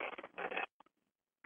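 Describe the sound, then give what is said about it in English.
Papers shuffling in a dense, crinkly rustle for over half a second, followed by a few quick soft flicks and one final brief rustle. No one speaks. “Shuffling papers.”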